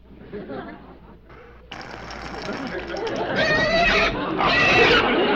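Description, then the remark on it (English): A pig grunts and then breaks into shrill, drawn-out squeals, loud over a rough, noisy background that builds steadily toward the end. “Now look what you've done. I never saw such a chicken pig.”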